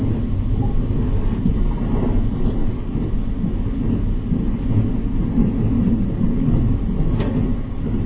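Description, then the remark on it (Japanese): A night train rolls along the rails with a steady, heavy low rumble that fills the whole stretch, with faint rattles and no voices. “夜行列車では盗難の恐れがありますので、貴重品には十分にお気をつけください。”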